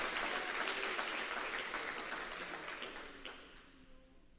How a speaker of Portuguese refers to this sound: Está com medo? Aplauda o Senhor!